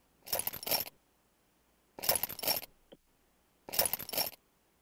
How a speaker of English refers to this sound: All right, let's listen to some of the samples that you collected. So here are some glass test tubes clinking.